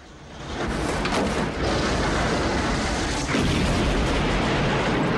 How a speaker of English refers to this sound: The plane's tail hits the tower sideways on. In the ensuing explosion, the tower collapses and the plane's tail is blown off.